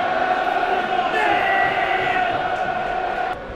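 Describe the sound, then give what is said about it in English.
A large football crowd roars and cheers at Mill's pressing around 28 minutes into the match, a sustained, dense wash of voices holding steady before dipping slightly near the end. “That's got the crowd going.”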